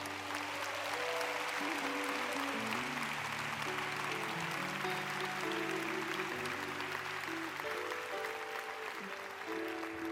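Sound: audience applauding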